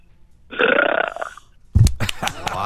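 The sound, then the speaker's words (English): A loud, drawn-out belch, performed on request as a talent, rumbles for about a second, followed by a short pause and then a burst of laughter and reactions. “All right, let's hear your loud belch.”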